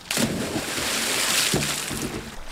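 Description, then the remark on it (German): A loud splash as a swimmer jumps from a starting block into a swimming pool in a hall, followed by a couple of seconds of steady rushing, churning water noise that slowly settles. “Jetzt nur noch die Stufen des Startblocks hoch, einen Sprung und dann...”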